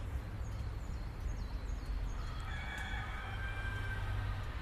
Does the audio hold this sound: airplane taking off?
no